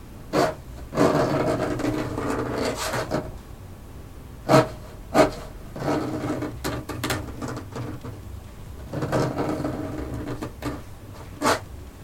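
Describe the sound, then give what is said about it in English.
Rough, insistent scratching on a wooden basement door in an old house: bursts of dry scraping that swell and fade, broken by a few sharp taps, with no voices. “The scratching was louder now.”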